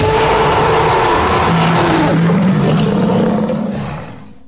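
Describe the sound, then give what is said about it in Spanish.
A huge, rumbling T-Rex dinosaur roar bellows loudly for about four seconds with growling low tones and a harsh rasp, then fades away at the end. No talking. “Ahí estaba el enorme animal dando unos alaridos que asustaban a todo el mundo, a los mayores también.”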